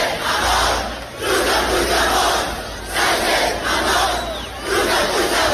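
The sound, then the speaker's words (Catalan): About 5,000 young people at a band concert in Salt spontaneously chant an insult at Sánchez in unison, loud and rhythmic, the same shouted phrase surging in about four waves with brief dips between them. “La gent cridant de manera espontània, Sánchez, un insult que acaba en on, truca a Puigdemont, un crit que va encoratjar 5.000 persones, 5.000 joves que assistien al concert i que ja s'ha viralitzat a les xarxes socials.”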